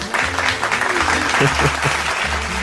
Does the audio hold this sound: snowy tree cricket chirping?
no